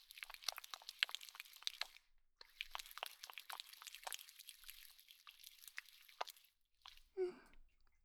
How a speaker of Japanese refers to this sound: 最初は頭から洗っていくよ。シャンプーを手に取って、両手でよーく泡立てていくね。